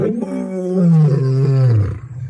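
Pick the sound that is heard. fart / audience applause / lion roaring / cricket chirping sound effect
lion roaring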